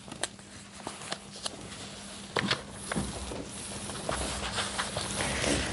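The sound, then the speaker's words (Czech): Sharp clicking footsteps of a woman walking with small steps in high heels in a park tap at a fairly quick, slightly uneven pace over a soft background hiss, fairly quiet. “Poznala jsem jí z dálky, přicházela drobnými kroky na vysokých podpatcích,”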